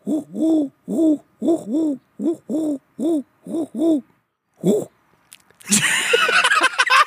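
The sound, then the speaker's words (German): Pigeons in Bottrop coo a steady run of soft, rounded "hu" calls, about a dozen rising-and-falling notes in loose pairs, then a sudden loud burst of rustling noise takes over at the end. “Aber die Tauben hier, die rufen hu, hu, hu, hu, hu.”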